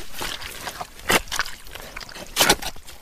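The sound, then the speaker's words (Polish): Wet, sucking squelches of footsteps pulling through thick mud, with two louder splashy steps standing out among softer sloshing and gurgling noises, and no voices over them. “Błoto, jedno wielkie wciągające błoto.”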